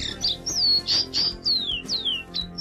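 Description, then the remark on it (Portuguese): A rufous-bellied thrush, a 25 cm bird with a dark yellow bill, grey feathers and an orangish belly, sings a quick run of clear, whistled phrases, several sliding downward, fairly loud over a low, steady background hum. “O sabiá laranjeira mede 25 centímetros. Tem o bico amarelo escuro e as penas cinzas, com exceção da barriga, que é meio alaranjada.”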